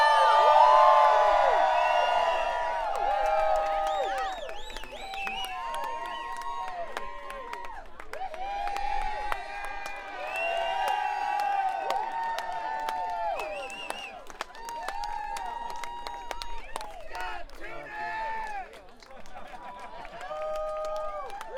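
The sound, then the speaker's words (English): A concert crowd screams and cheers continuously to call the performers back out, high-pitched shrieks and whoops layered over scattered clapping, loud and sustained throughout with slight swells, like an arena audience roaring. “You guys are going to scream loud because they're back there. Now come out if you holler enough.”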